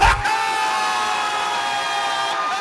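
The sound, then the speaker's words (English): A loud, sustained roar of yelling voices after a brief burst at the start, holding steady for a couple of seconds: a sports crowd cheering a touchdown. “Touchdown, apparently. Sports yelling.”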